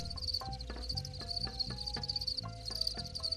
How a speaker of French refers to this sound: Ça, c'est un élevage de grillons. Ils sont en train de chanter, enfin de striduler. C'est les mâles qui chantent pour attirer les femelles.